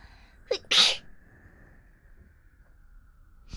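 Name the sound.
sneeze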